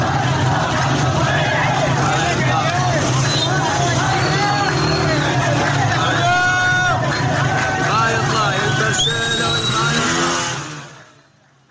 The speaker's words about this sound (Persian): اگر موافق باشید در همین ابتدا صدای اعتراضات مردم در شهر ویس رو بشنویم.